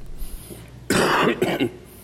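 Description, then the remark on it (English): Two harsh coughs in quick succession, the first longer and louder, the second shorter, with quiet room tone before and after. “Yes, I still have my cough.”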